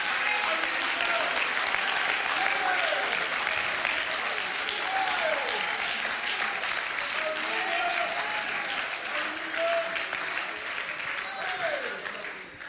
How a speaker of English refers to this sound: Oh, would you clap your hands? And would you shout with your voice?